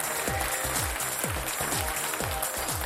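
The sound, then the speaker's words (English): A crowd claps steadily for the 2017 local ministries and outreach leaders in a dense, continuous wash of applause, while a deep thumping beat pulses underneath about twice a second. No voices. “Ladies and gentlemen, please give our 2017 local ministries and outreach leaders a round of applause.”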